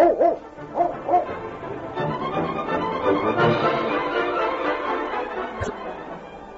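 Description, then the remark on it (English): A dog, Jinx, barks a few times in quick bursts at the start, then a steady murmur of background noise and chatter fills the rest, with occasional faint yips. “After all these years, I finally got a dog.”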